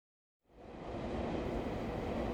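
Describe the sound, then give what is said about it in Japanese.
Silence gives way to the steady, dense rumble of a train rolling along the rails, building quickly within a second and holding loud and continuous to the end, with no voices. “いくつもいくつも電車を乗り継いで乗り継いで、ようやく着いた先がこの南豊里村でした。”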